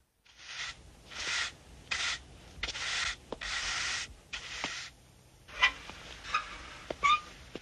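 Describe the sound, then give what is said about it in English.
A man sweeps the floor of a grocery store with a broom in a steady rhythm of rough, scratchy swishes, about seven strokes, followed by a few sharper, lighter scrapes and taps. No one speaks. “He puts the orange juice back in the fridge and begins sweeping the floor again.”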